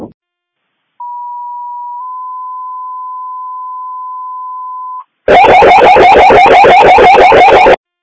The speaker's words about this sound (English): Can you give me test tones, please, with the warble?